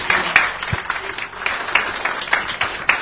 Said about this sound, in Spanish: Muchas gracias por su presencia y muy buenas tardes, señores, con el aplauso nuevamente de ustedes a los boxeadores uruguayos y a todos los dirigentes que permitieron esto.